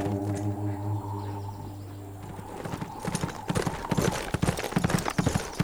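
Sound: horse hooves clip-clopping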